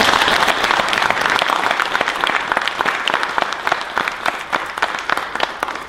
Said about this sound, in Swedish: Och det var egentligen min presentation. Ja, då ger jag en applåd.